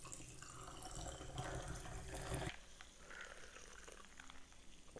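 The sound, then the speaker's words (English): Tonic water pours steadily into a cup holding squished grapefruit and a shot of Grey Goose vodka for a couple of seconds, then cuts off, leaving a faint fizzing trickle and quiet clinks. No one speaks. “And lastly, tonic water.”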